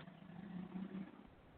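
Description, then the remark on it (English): A motorcycle rumbles past a patio, its low engine drone swelling briefly and then easing off, steady, with no one speaking. “I'm out on the patio, so, you know, that's one of the dangers of being out on the patio, is you don't know if a motorcycle or a big truck's going to go by at any moment here.”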